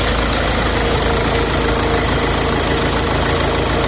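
A car engine idles steadily in a car repair workshop in the polígono norte, an industrial zone of Seville, Spain, a continuous loud mechanical rumble with a faint knocking texture and no pauses, and nobody speaks.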